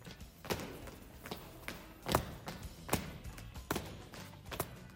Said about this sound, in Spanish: Bueno, se escucha ahí un taconeo.